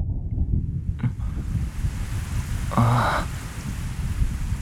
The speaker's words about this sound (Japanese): 雨が降ってきた。